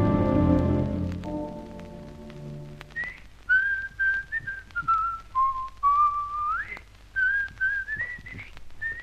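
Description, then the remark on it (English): A man whistles a melodic theme song, clear sustained notes gliding and stepping between pitches in short phrases, following a fading low tone at the start. No one speaks. “In fact, if you recognized it, I was whistling your theme song.”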